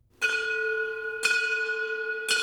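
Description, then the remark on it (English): A bright, resonant bell is struck three times at a steady, unhurried pace, each ring blooming loudly and sustaining into the next, clear with no voices present. It is the opening bell for the new National Geospatial-Intelligence Agency campus in the St. Louis Place neighborhood of North City, St. Louis. “That's the opening bell for the new NGA campus in the St. Louis Place neighborhood.”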